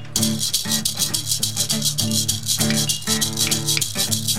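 Sharp, bright clicks of claves knock out a steady, quick rhythm over a full band playing a sustained, droning chord, with no voices. The band is performing, for the first time, a theme song newly written for Yuba Bus.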